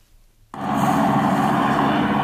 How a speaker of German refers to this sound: Hubschrauber. Sehr gut. Das ist der C12 Christophorus. Nein, das war der Black Hawk. Ja, Black Hawk.